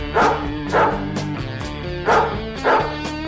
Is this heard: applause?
no